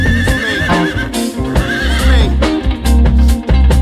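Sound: horse neighing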